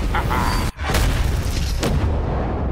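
A huge ship explosion roars loud, a dense booming rumble that cuts out for an instant before a second blast surges back and keeps thundering to the end.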